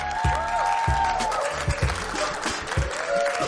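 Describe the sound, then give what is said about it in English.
A group of students from Boston Adventist Dream Academy claps steadily for the Patriots' Shaq Mason, a dense crackle of applause running the whole time, with low thumps and a few high whoops rising above it. “Let's give a round of applause for the Patriots' own Shaq Mason.”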